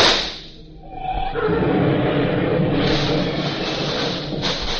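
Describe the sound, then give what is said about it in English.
A heavy truck engine rumbles in as the truck arrives at a blocked road, with a deep, steady roar that swells after a brief dip and then holds loud and constant, with a gritty hiss over the low growl. “Here comes the truck and the road's blocked good.”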